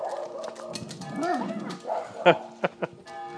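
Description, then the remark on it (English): A dog being walked by a woman at the corner of Dauphine and Piety streets in New Orleans lets out a few sharp barks, three quick yaps near the end after some softer whining and street noise, with faint voices in the background. “A woman walking her dog, I'm on the corner of Dauphine and Piety.”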